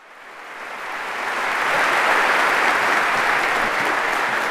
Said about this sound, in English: And a round of applause for Dr. Madden's hair.